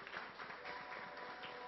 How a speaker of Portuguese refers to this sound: Uma salva de palmas.